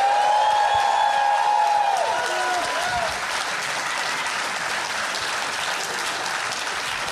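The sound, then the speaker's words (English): A live audience applauds steadily for several seconds as a guest is welcomed to the stage, a dense, even wash of clapping, with a few high whoops and cheers rising over it in the first moments before fading out. “Give it up for John Flynn.”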